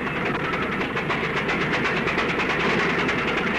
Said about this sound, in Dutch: Tegenover het Centraal Station aan het Weena zijn draglines bezig de bouwput voor het ondergrondse hoofdstation verder uit te diepen.